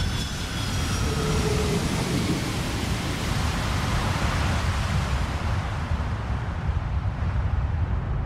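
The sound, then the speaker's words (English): Steady, loud jet engine roar fills the whole stretch, with high whining tones fading early on as a large passenger plane comes in to land. No one speaks. “Imagine landing a large passenger plane in a dense fog.”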